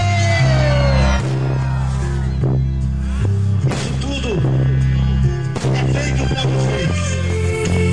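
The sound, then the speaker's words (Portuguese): A festival crowd in Moraes de Almeida shouts and cheers loudly in answer to the announcer's call to shout if they are enjoying it. Voices whoop and yell over pounding music with a steady, shifting bass line that continues throughout. “Quem está gostando dá um grito.”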